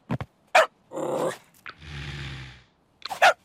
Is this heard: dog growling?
yes